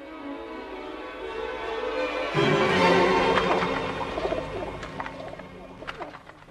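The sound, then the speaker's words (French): Carrier pigeons coo in low, throaty rolls, several birds overlapping in a steady murmur that swells after a couple of seconds, with a few faint rustles and clicks mixed in. “Élever des pigeons voyageurs, c'est facile et utile.”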